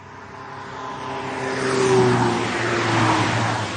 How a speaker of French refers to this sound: Oh, mais quelle circulation!